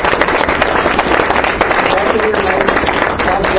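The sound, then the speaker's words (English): A seminar audience applauds the speaker steadily, a dense, loud patter of many hands clapping without pause for several seconds, with faint voices mixed into the noise. “Our speaker, who give a round of applause?”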